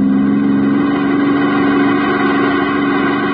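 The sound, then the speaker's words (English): A car engine drones loudly and steadily at speed as the car heads toward a 10-ton truck right in front of it, a constant low hum with no rise or fall across the few seconds and no voices. “You ever hit the back of a 10-ton truck at 80 miles an hour?”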